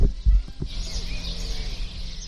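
Small birds chirp faintly in the background of a quiet outdoor scene in Camarenilla, a village of 500 inhabitants in Toledo, with the low rumble of a car passing far away. A few soft thumps sound at the start.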